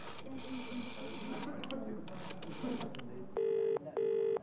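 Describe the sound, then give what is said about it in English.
A telephone number is dialed in a hotel amid rustling, clicking handling noise, followed by two loud, steady ringing tones on the line, each lasting about half a second. “I dialed the number.”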